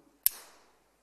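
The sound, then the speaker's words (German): A carabiner is hooked into the front of a climbing harness and its gate snaps shut: one sharp, bright metallic click followed by a brief high ringing that fades within half a second, alone with no talking. “Und wenn das klickt, wenn ich weiß, jetzt schnappt er zu und ich bin hier dran, dann bin ich sicher.”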